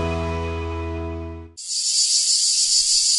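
A steady, humming tonal drone cuts off abruptly, replaced by a loud, continuous, high-pitched cicada buzz that holds steady to the end, with no one talking.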